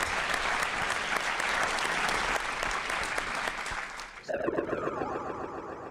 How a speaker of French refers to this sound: Effectivement, on peut l'applaudir très fort.